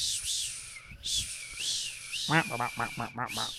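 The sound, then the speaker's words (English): A voice imitates a male blue-footed booby's whistling call: breathy, hissy whistles, then a quick run of five or six squeaky, rising whistled notes, fairly loud. “does a good blue-footed booby impression as well. The male blue-footed booby. Yeah, because they like whistle, don't they?”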